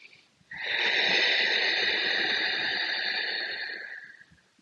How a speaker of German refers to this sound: Und dieses Verengen der Stimmritze und dieses geräuschvolle Ausatmen hat eine Auswirkung auch auf deinen Kehlkopf.